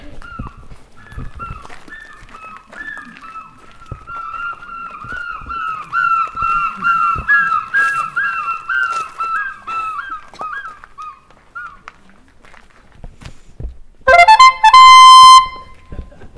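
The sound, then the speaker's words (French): A bird-song imitator whistles bird imitations during an offbeat ornithology talk at FestiWild, in quick, warbling chirps and trills that run on for several seconds. After a pause comes a loud, bright burst of rapid, rising whistled notes. “qui sont des chanteurs d'oiseaux et donc qui donnent une conférence ornitho décalée”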